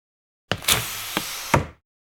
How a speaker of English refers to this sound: George, open the window, please.